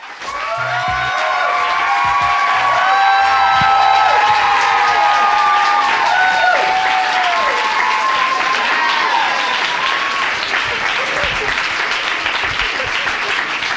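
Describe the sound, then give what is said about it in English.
A crowd of fans at the Strand Bookstore in New York City bursts into sustained applause and cheering for author Janet Mock, with bright whoops and shouts rising over steady clapping that stays loud throughout before easing slightly near the end. “And I was super excited to interview Janet about it at the Strand Bookstore in New York City in front of a crowd of her lovely fans, who you'll hear too.”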